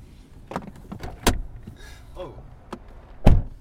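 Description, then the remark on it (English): A car door shuts with a heavy, solid thud at the end, preceded by a series of sharp clicks and rustling movement as someone climbs out. No one speaks. “I'm going to hop out of the car now.”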